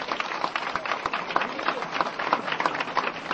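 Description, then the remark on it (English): An audience applauds steadily, a dense, crackling patter of many hands clapping at once that holds an even loudness throughout, with no one speaking over it. “Fantastic applause you get.”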